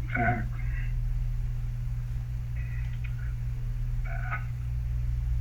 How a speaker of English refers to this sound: Stop. Okay, sorry about that. I had the phone off, but it comes on my phone, through my computer too.